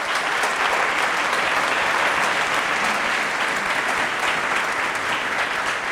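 Steady audience applause as historian Wolfram Siemann is introduced fills all six seconds, a dense, even wash of many hands clapping at a constant, fairly loud level, with no voices rising above it.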